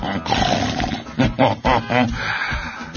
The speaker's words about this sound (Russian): Я сказал: «Товарищ капитан, было очень похоже на рычание, и я, наверное, немножко испугался».